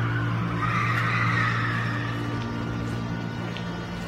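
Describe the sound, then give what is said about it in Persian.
A car's tires skid and squeal in a drawn-out screech over a steady low engine rumble, fairly loud, with no one speaking, in the parking garage of a home. “به صدای ماشین برمیگرده و به اطراف نگاه میکنه.”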